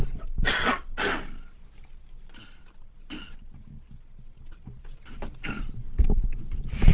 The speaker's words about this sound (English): Sorry, I'm going to have a little cough and a drink of water.